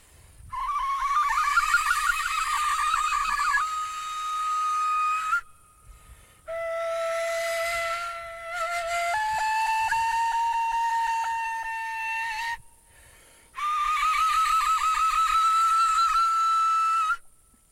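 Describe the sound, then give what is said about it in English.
A breathy flute-like traditional Bashkir instrument imitates crane calls, an ancient genre of traditional Bashkir music, in three loud phrases: warbling, fluttering trills alternating with long held tones that step down in pitch, separated by brief silences. “I would like to perform for you some of the more popular and well-known sounds imitating the crane.”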